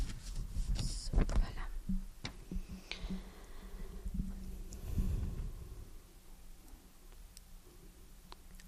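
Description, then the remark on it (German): Book pages being leafed through: soft papery rustles and scattered light clicks and flicks come in uneven bursts, louder early on and quieter toward the end. “Ich muss mal blättern, Sekunde.”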